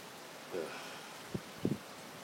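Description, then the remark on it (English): Steady, soft hiss of rain falling outside a garage on a cold, windy morning, a continuous wash of patter with a few brief low thumps and murmurs breaking through near the middle. “It's the drive home if it continues to rain like this or harder, which is what it sounds like it's going to do.”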